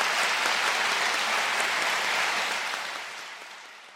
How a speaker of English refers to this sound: I want to thank Eric Foner for his governor's lecture in the humanities. And I think a round of applause. Thank you very much.